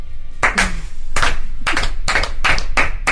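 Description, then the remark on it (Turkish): A single person claps their hands about eight times in loud, sharp bursts with an uneven, unhurried rhythm. No one speaks. “Kendimi alkışlıyorum kötü.”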